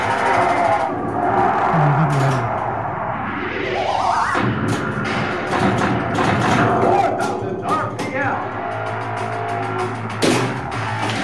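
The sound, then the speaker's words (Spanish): An electronic car-racing pinball machine made by Data Ace plays on, with rising synth sweeps, bleeping tones and sharp clacks and thuds from the flippers and ball, all loud, busy and continuous without pause. “Oyentes de Onda Azul, así suena un pinball, ¿eh?”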